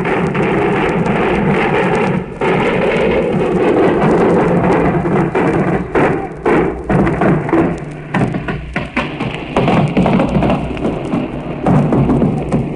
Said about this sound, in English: Very heavy fire now off our stern from warships in that area. Fiery bursts. And the flak and steamer is going out in a diagonal slant. It's right over our heads. And bursting over our heads to the ship, from the ship to the side of it.